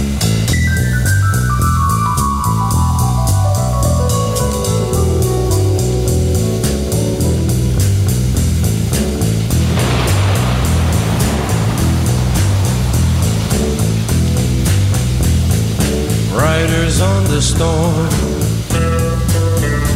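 Steady hissing rain with a low rumble of thunder swelling midway, part of a seven-minute record played on the radio, blended under slow, moody electric piano music that plays throughout.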